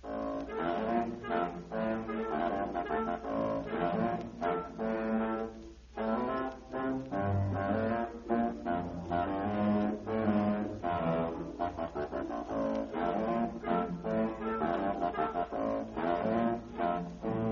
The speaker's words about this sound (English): Listen to the humming song of Ka the Python. The wise one.